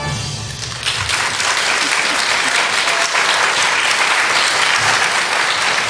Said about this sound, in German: Ja, und vor allem, da merkst du halt auch mal wieder, wie gut das Publikum trainiert ist, wenn der Trippeltusch kommt, wird geklatscht.